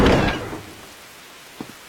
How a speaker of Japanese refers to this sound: まったくこの雨。